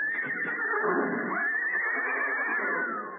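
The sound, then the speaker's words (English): A horse whinnies in one long, shrill, quavering neigh lasting a few seconds, fairly loud, with no talking over it. “We'll get our horses.”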